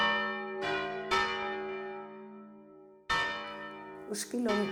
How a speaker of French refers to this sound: Jusqu'à récemment, le son des cloches marquait le rythme de la ville. Nous avons encore notre carillon local appelé Esquilón.